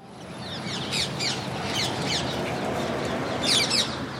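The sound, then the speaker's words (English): Parakeets in Beale Park, a neighborhood park lined with tall palm trees in the center of Bakersfield, California, give a run of shrill, scratchy squawks in quick bursts, repeating irregularly and loudest near the end, over a steady wash of outdoor background noise. “I'd read about a group of parakeets living in the area while researching how to take care of my own pet parakeets.”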